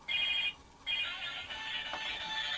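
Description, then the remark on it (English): A phone ringtone chirps in two bursts of bright electronic tones separated by a brief pause, steady, with no one talking over it. “Is somebody calling you?”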